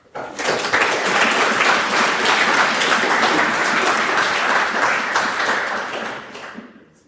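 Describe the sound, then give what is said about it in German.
Sustained spontaneous audience applause at the end of a talk: many hands clapping in a dense, steady wash that swells quickly, holds loud for several seconds, then tapers off at the end. “Ich glaube, also mein erster, wo es heute spontan Applaus gab, also da gab es die letzten zwei Tage auch nicht zwischendurch, das kannst du dir definitiv auf die Fahnen schreiben.”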